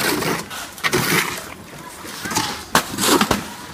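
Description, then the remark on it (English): Wet cement sloshes and slaps as it's dumped for laying cement, with a few heavy splattering thumps in a noisy jumble, and faint voices in the background. “I'm gonna go over here to dump it for laying some cement.”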